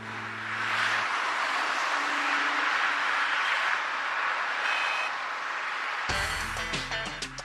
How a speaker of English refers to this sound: Like many big cities, Boston has a problem with traffic jams. But this traffic won't be here much longer.